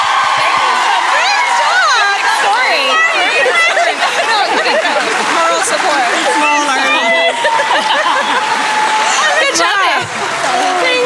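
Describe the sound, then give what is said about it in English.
An audience cheers and applauds a group of guests from a seven-part series, a dense, loud crowd roar of overlapping voices, whoops and shouts holding steady for about ten seconds before briefly dipping near the end. “Give them a round of Let's applause. Let's hear it, all of these guys.”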